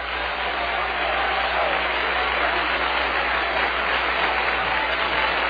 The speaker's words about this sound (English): You know what the Bible said? The Bible said, clap your hands, all you people, and make a joyful noise in the Lord. I hope we never lose that.